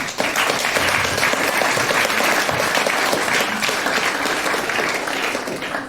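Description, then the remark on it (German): A crowd applauds steadily for about six seconds for the games of the Kunst und Kultur Spielesammlung, made at a hackathon, a dense, even wash of clapping that stays loud throughout with no voices standing out. “Und deswegen einen großen Applaus für die Spiele von Kunst und Kultur Spielesammlung.”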